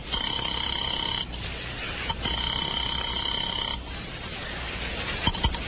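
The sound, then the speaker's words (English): A telephone rings twice on the line as a caller phones a bookie joint, each ring a steady electronic burst of about a second and a half with a short pause between, sounding thin and filtered as if heard through a handset. “I picked up the phone to call a bookie joint run by a guy named Joey Gall.”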